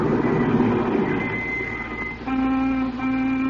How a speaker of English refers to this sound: And then a car pulled a stop outside. Remember?